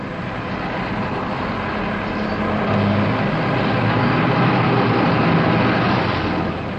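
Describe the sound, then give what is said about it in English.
A steady, broad roar of a vehicle that swells slightly midway and holds loud before easing off at the end, like a car driving past. No one speaks. “I told him you don't chase cars. But why'd you chase our car and the Staples truck?”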